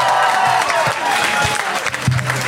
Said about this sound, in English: And the 100 Voice Choir! Give yourselves that a round of applause! The sound of the summer!